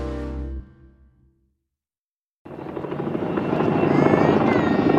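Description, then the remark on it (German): A helicopter roars in loud after a brief low hum and a moment of silence, its rotor thumping rapidly and growing steadily stronger as it passes overhead, deployed during violent demonstrations outside asylum seekers' housing in Hoyerswerda, Germany, in 1991. “Hubschraubereinsatz, gewalttätige Demonstrationen vor Asylbewerberunterkünften.”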